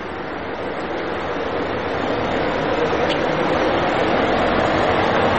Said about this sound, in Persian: اه ماشین پلیس داره اینجا رد میشه، ببینیم که بهمون گیر میده یا نه.